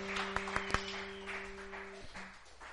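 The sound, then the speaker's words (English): A crowd applauding and cheering for the Lord in a diffuse, hissy wash, with a few sharp claps standing out early on, over a steady low hum that cuts off partway through. “Give the Lord a cheer.”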